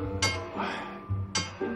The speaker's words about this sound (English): Sophie bangs on a pipe in the boiler room.